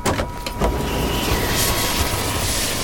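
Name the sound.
helicopter landing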